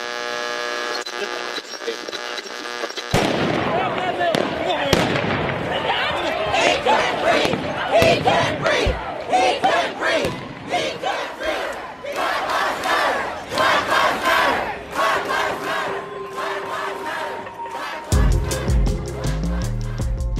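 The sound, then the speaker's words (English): A large crowd of protesters against police brutality, after Derek Chauvin murdered George Floyd, shouts and chants together, a dense roar of raised voices with sharp peaks of yelling, steady and loud for most of the stretch after a brief tonal hum at the start. “Austin also has distinct memories of what it sounded like after Derek Chauvin murdered George Floyd, and it led crowds of people to emerge from their homes and raise their voices against police brutality.”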